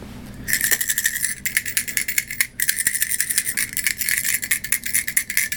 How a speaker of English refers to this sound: Okay. Drop those coins.